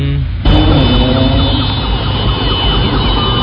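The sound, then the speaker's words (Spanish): An ambulance siren blares loudly on a road on a Friday night, kicking in abruptly after a brief moment and wailing steadily over a heavy rumble of engine and traffic noise. “Pero me gustó la acción de la ambulancia. Adelantarse a este lado.”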